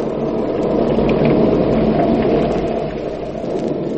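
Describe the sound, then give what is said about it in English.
A steady roar of heavy rain fills the scene, with a deep rumble of thunder rolling underneath, loud and continuous throughout without any voices: a thunderstorm raging outside a house. “A storm rages outside the house of Emery Lockmore, the celebrated Egyptologist and authority on rare Oriental treasures.”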